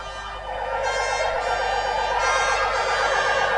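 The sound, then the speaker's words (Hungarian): Emergency vehicle sirens wail continuously and loudly, their overlapping tones rising and falling together in a steady, sustained chorus with no voices; sounded by hundreds of firefighters, police and ambulance crews at an evening memorial with candle lighting for three firefighters who died. “Gyertyagyújtással és szirénázással emlékeztek rájuk.”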